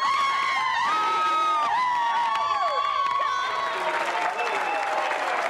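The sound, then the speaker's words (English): A crowd of thousands of fans and voters screams and cheers loudly and continuously for the president of Venezuela at his live weekly television broadcast, many high voices overlapping, with a rising wash of clapping and noise toward the end. “Every Sunday, he flies his desk to a new location to perform for his thousands of screaming fans and voters.”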